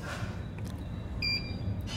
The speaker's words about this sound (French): C'est l'appareil détecteur d'explosifs pour la correspondance.